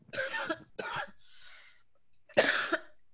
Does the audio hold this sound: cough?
yes